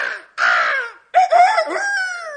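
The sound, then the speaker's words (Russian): A crow caws loudly and harshly: two short rasping calls, then a longer, drawn-out caw that trails off. No other sounds. “Старуха кричит, как ворона.”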